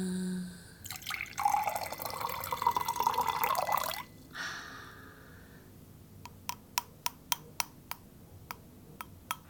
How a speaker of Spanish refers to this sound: Juego con el agua. Juego con el agua.